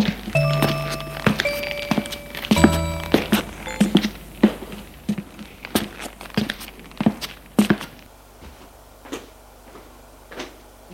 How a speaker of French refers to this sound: Elle frappe à la porte de la chambre.